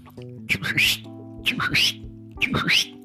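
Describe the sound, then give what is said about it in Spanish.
A voice imitates a father's whistle calling a child home from the street at night, three times in a steady rhythm, each short two-part burst rising sharply. The calls are fairly loud, with a low hum underneath. “Ese pinche chiflidito...”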